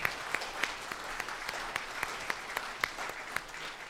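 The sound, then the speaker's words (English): A church audience claps steadily for military veterans and their spouses, the hand claps forming a dense, continuous patter with a few sharper individual claps standing out. Sustained applause runs the full length with no voices. “So in any of the armed forces, reserves, or anything, let's give them a round of applause and thank you.”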